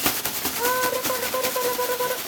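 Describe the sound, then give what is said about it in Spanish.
Imitated rain made by a fast, dense patter of taps, steady throughout. Partway in, a faint sustained tone joins underneath. “¿Y si cuando hacemos que llueve corremos por toda la casa?”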